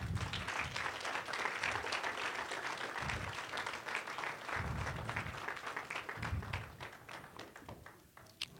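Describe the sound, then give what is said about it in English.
A crowd claps steadily at the speaker's call to clap their hands, a dense wash of many hands with low thumps mixed in, holding loud for most of the stretch before thinning out near the end. “Clap your hands.”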